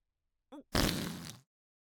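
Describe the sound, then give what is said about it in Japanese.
A loud fart: a brief squeaky toot, then a longer, wet, sputtering blast lasting under a second, with no voices around it. “ほら、またこいた。”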